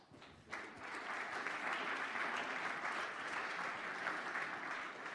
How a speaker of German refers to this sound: Ja, ein Applaus.